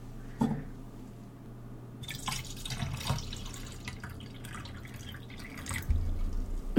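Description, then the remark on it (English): Water splashes and trickles into a glass, a steady liquid pour with small drips and clinks, moderately quiet with no talking. “Yeah, water would be really nice.”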